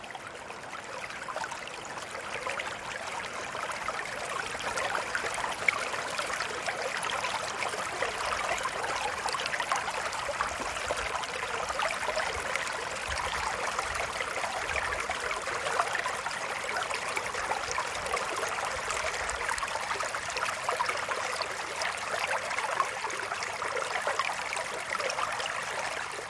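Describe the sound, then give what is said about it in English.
Steady trickling of a small stream, water babbling continuously over stones, with a soft, bright, even texture and no voices. “Water is speaking.”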